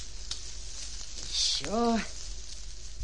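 A fire being smothered with sand: a short, bright hiss and sizzle over a steady noisy background, followed by a brief wavering groan-like tone that rises and falls before the sound settles.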